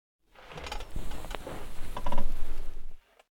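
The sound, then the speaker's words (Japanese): A floor chair's backrest is tilted back, its mechanism giving a run of clicking, ratcheting notches with some creaking and rustling, building slightly in loudness before stopping abruptly. “お客様は座椅子を少し倒してここにもたれかかってもらってもいいですか？”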